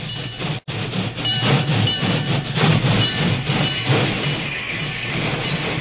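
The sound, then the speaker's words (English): A work train rolls in on the main track beside a telegraph office in light drizzle, its heavy rumble and rattling wheels filling the air steadily for several seconds after a brief break at the start. No voices are heard. “The rain had slackened to a drizzle when a wailing locomotive whistle announced the work train's arrival on the main track beside the telegraph office.”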